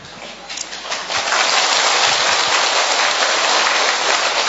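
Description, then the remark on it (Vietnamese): An audience applauds as a sign that they forgive the speaker, the clapping swelling after about a second into a dense, steady roar of many hands that holds loud and even to the end, with no voices over it. “Nghe mà tiếng vỗ tay, tức là cái lời chứng là chúng con tha lỗi cho Cha.”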